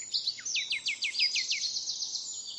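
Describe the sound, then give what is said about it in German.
A nightingale sings a rapid series of repeated descending whistled notes, clear, followed by a sustained high trill, with no voices present. “Schon bei Plinius gilt die Nachtigall als das ganz, ganz große Vorbild für die Musik.”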